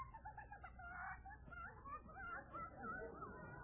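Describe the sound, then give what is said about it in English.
A prize Rhode Island Red rooster named Raymond, shut inside a box on a train, crows and clucks in a steady run of muffled, squawking calls that fill the whole few seconds, sounding dulled as if enclosed. The box is meant for Mr. Truman. “My prize, Raymond Rhode Island Red.”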